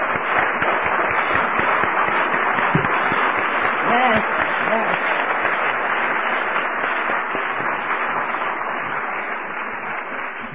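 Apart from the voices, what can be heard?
audience applause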